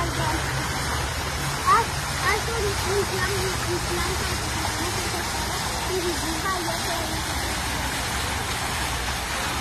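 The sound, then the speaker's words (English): A steady, continuous rush of flowing murky brown water fills the scene, with a low rumble of passing traffic underneath and a few faint, indistinct voices. “This is the brown poop water.”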